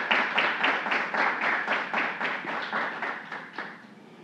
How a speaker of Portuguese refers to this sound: Salva de palmas, nosso homenageado.